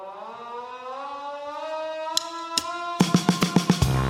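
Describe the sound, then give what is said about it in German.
A hand-cranked siren winds up into a steady, slowly rising wail in a theatre auditorium during a stage performance. A couple of sharp knocks cut in, then a quick run of rhythmic bangs plays over the siren near the end. “Eine handbetriebene Sirene ertönt.”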